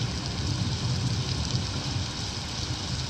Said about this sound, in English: Oh my God. The rain just got worse?